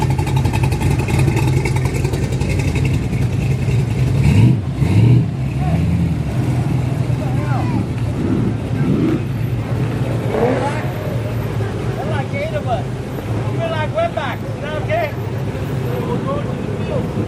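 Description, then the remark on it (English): A Jeep engine rumbles loudly at a car show, with a surge of revving early on before settling into a steady idle, while people talk over it outdoors. “Well, it looks great. It sounds awesome. Yeah, it's great. It's a great Jeep.”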